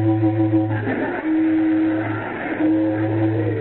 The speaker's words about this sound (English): Honk the horn. Maybe somebody will come out. They didn't hear it. Try the other one.